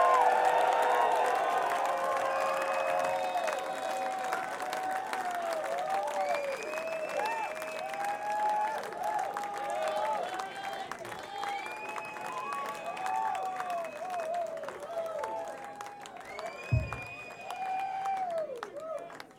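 A concert crowd applauds and cheers for the band, calling for an encore, in a steady, sustained roar, with scattered high whoops and shouts rising above the clapping and a single low thump near the end.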